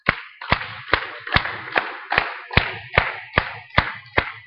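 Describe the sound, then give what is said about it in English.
A group claps in unison to a steady beat to start a birthday song, about a dozen sharp, evenly spaced handclaps over several seconds with a faint low murmur underneath. “Let's start clapping.”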